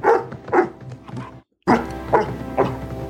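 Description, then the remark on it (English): A person imitates dogs barking, giving a quick series of loud woofs in two bursts separated by a short silent pause. “I like when he does the dogs as this.”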